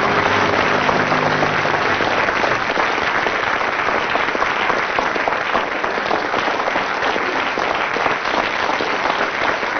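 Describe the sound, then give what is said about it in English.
An audience breaks into spontaneous applause for about ten seconds, a dense, even wash of many hands clapping at once. A faint low hum lingers underneath during the first couple of seconds. “Well, with 7 seconds of spontaneous applause from the audience there, Tim and Willie have scored quite a lot of points.”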